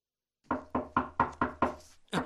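Six quick, evenly spaced knocks on a wooden door, close and fairly loud, followed after a brief pause by the start of another knock. No voices.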